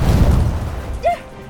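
A loud, deep missile explosion rumbles and slowly fades, followed by a brief high whistling chirp and quiet debris-like noise.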